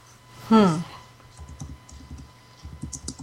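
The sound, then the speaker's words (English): A short vocal sound comes first, then a run of quick, uneven, fairly soft clacks from someone typing on a computer keyboard to look a woman up. “What are you doing? Oh, I was totally looking her up.”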